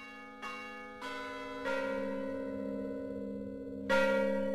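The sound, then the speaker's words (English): The bells of Mission San Juan Bautista, in the first recording made of them, ring out in a slow series of four clear strikes, each leaving a long, humming resonance that layers with the next, heard alone without voices. “For the song of Ascensión's death, Joseph Weil and Boone made the first recording of the bells of Mission San Juan Bautista and arranged them for a chorus.”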